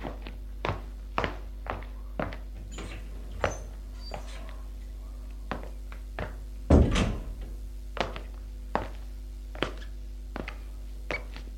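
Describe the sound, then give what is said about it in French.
Steady footsteps walk along a hard floor, then a louder door thunk as a door at the end of a corridor is pulled open partway through, and the footsteps carry on afterward. No one speaks. “Apolline suit son mari qui va ouvrir une porte au fond du couloir.”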